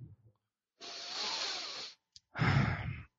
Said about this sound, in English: By the way, that was him breathing in real heavy. That wasn't like a plane or anything like that.